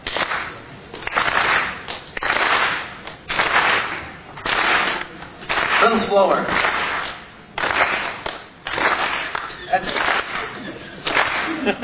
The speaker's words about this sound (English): And I'll need you to clap along.